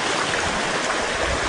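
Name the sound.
water flowing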